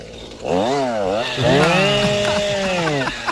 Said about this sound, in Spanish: ¿Es una motillo? ¡Qué maravilla! ¡Mira cómo ronronea! Esto suena mejor que un Ferrari Testarossa.